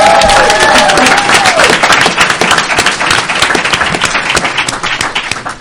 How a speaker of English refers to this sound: And can we just all give one huge cheer and round of applause to our Denver Broncos for this night?